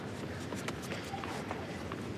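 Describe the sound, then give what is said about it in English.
Quick running footsteps of two ball boys retrieving a ball on a hard tennis court during a match, a rapid run of light steps over a steady wash of background crowd noise. “Footsteps of two ball boys who got involved in the retrieval process on that occasion.”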